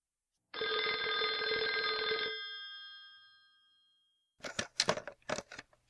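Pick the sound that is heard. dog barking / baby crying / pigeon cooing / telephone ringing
telephone ringing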